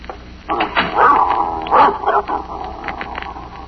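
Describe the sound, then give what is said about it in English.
Mrs. Gillis's old female dog barks in a few sharp, slightly whiny bursts, two louder barks standing out over a low background hum, with no one speaking. “I don't think your dog likes me, Mrs.”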